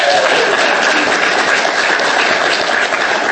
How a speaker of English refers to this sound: This is Kevin Haig from the Green Party of Aotearoa New Zealand. Please give him a bit of applause as an introduction.